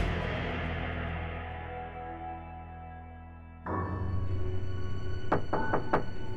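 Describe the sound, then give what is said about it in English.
Four quick, sharp knocks on a door near the end, rapping out over sustained piano-like music that swells partway through; nobody speaks. “Vicki Weggerly was playing the piano when she was interrupted by a sudden knock at the door”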